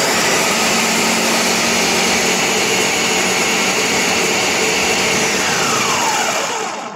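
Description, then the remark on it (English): A loud, steady motorized whir of a kitchen blender running at full speed in a home, with a constant high-pitched hum and no talking, tapering off only at the very end. “When the blender went on, the level exceeds 200 milligauss, which is extremely high.”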